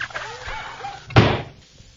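A single loud door slam lands sharply about halfway through, its heavy thud ringing out briefly, after a stretch of quiet room tone with faint murmuring sounds in the background.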